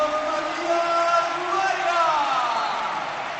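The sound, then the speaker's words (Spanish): A large stadium crowd cheers in a steady, loud roar as footballer Matías Vargas comes on as a substitute, with many voices rising and falling together in a chant-like swell that holds for the whole stretch. “El pueblo aclamando a Matías Vargas.”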